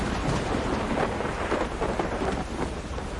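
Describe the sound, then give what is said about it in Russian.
Steady, dense rain pours down with a continuous hiss while low thunder rumbles underneath, holding a fairly constant loudness throughout, with no voices present. “Между тем дождик перестал.”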